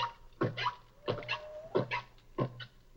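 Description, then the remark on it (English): A single whale sings a structured, organized solo song of repeating calls and themes, several short groaning pulses in a steady rhythm, with a thin rising whistle threading between them. No one speaks. “One whale singing an entire organized song.”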